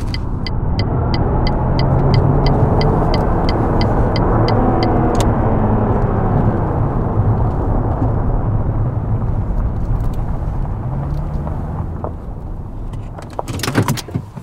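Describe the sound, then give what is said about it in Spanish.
A car drives with a loud, steady engine and road rumble, a quick ticking like a turn signal early on, then the noise eases as the driver slows and pulls over, ending in a few clunks. “Bueno, en el asiento del conductor, voy manejando.”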